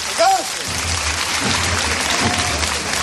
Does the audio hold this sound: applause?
yes